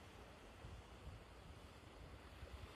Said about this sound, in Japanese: 満月の波の呼吸。The waves breathing on a full moon night. 波の音に合わせて呼吸をします。Breathe to the sound of the waves.